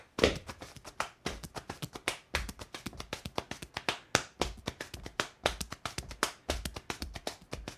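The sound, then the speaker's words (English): Rapid hambone slapping, hands striking leg and chest in a steady syncopated rhythm of sharp claps and duller thumps, sustained for several seconds with no voices. “And that's, how you slap your hand on your leg and your chest.”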